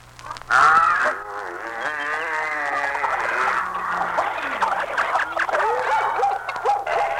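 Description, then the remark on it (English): A loud jumble of animal calls overlapping at once as male and female animals of every kind are taken through the door of Noah's ship: bleating, barking and lowing voices with wavering harmonic cries, a steady low hum underneath, and no speech. “God said to Noah, gather your family and the male and female of every kind of animal and take them through the door of the ship. Oh, what a noise they made!”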